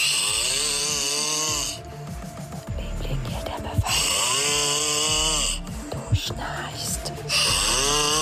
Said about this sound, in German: seine Frau Janine nimmt sein Schnarchen noch mit Humor